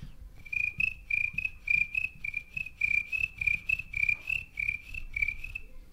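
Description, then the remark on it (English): Crickets chirp steadily late in the evening as darkness sets in, in a fast, pulsing trill that keeps going without a break, with a soft low rumble of background noise underneath and no voices. “And late in the evening, it was always fun to go back up to the house and pick out a nice rocker and watch the darkness set in and conversation kind of drift off to silence and the crickets would kind of take everything over.”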